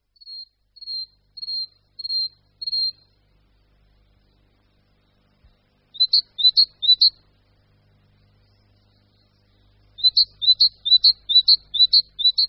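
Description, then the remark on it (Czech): A great tit sings alone in rhythmic phrases: first five even high notes, then after a pause quick repeated two-note bursts, and later a longer run of similar doubled notes, clear. “Když se za slunečného teplejšího rána začnou v parcích a zahradách všechny sýkory předhánět ve zpěvu, můžeme si všimnout, jak rozdílným způsobem jednotliví ptáci tu svou jednoduchou písničku přednášejí.”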